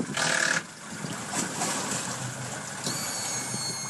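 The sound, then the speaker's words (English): A hired motorboat skiff used by firefighters patrolling the banks runs along the Yukon or Tanana river near Tanana, its engine droning steadily beneath rushing water and wind noise, with a louder splashing burst at the start. No one speaks. “Firefighters have been protecting structures and villages around here by patrolling the banks of the Yukon and Tanana rivers using hired skiffs and rafts.”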